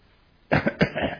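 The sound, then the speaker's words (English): A short burst of coughing from throat irritation, two or three quick, throaty hacks in a row, fairly loud against a quiet background with no talking. “You notice I've got a bit of irritation in my throat.”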